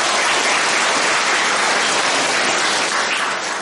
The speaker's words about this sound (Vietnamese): Rồi cho một tràng pháo tay đi.